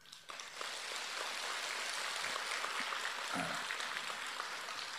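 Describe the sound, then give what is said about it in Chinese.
An audience breaks into applause after a brief quiet start, a dense, steady wash of many hands clapping that holds at an even, fairly loud level for several seconds. “故事还没讲完呢，所以你们鼓掌鼓得早了一点了。”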